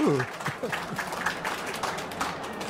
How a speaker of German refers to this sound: Dies sind zum einen der mehrfach ausgezeichnete österreichisch-tschechische Schriftsteller Michael Stavaric, den ich bitte mit einem herzlichen Applaus zu begrüßen. Vielen Dank.